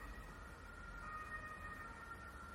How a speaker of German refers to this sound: Mensch, hörst du die Sirenen? Das ist ja Wahnsinn. Das hört ja gar nicht auf.